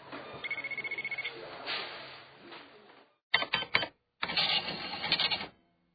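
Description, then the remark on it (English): A shop checkout barcode scanner beeps in a quick run of short electronic tones as a shop assistant tries and fails to scan pimple cream, followed by clattering bursts of register noise, with no one speaking. “She smiled and scanned the pimple cream. I started to feel hot. My face was turning red. The pimple cream wouldn't scan.”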